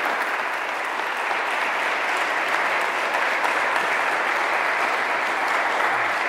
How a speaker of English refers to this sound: So if you would, just let's applaud him for this morning.